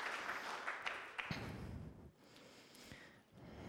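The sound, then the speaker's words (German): A crowd applauds four volunteers coming onto the stage, with dense, steady clapping that carries on throughout, briefly thinning partway before picking back up, with a few sharper individual claps standing out. “Einen herzlichen Applaus für unsere 4 Freiwilligen.”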